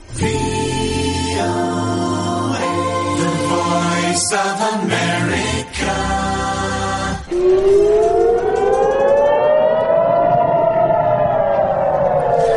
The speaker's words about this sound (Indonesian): Sementara itu, sirine meraung-raung di kota Ashkelon di Israel Selatan pada Selasa malam ketika militer mencegat rentetan serangan roket terbaru yang ditembakkan oleh militan Hamas dari jalur Gaza.